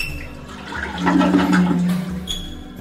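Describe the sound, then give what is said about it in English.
A loud rush of water from a washbasin surges like a toilet flush, swelling after a second and gurgling on before tapering off, with a faint hiss underneath. “Meine lieben Freunde, ich möchte in diesem Falle bitte für zu Protokoll geben, dass das irgendwie ähnlich klingt wie das Klo.”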